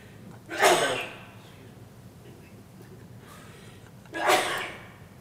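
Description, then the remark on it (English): Two sharp sneezes a few seconds apart, each a sudden explosive burst that trails off quickly, fairly loud. “Bless you.”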